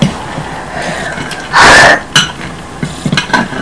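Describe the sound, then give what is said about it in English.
A single loud, rasping throat clearing from a sore throat, followed by a few softer small vocal noises and faint shuffling. No one speaks. “What's that, you're clearing your throat?”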